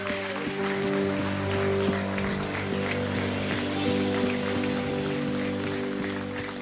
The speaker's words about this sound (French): Est-ce qu'on peut terminer par une acclamation vraiment de nos cœurs ?